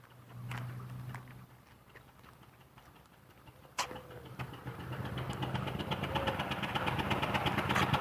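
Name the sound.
rough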